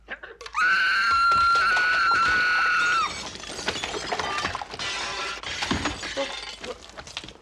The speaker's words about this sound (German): Und wenn sein Getrommel nicht reicht, dann kann er auch noch so schrill schreien, dass Glas zerspringt.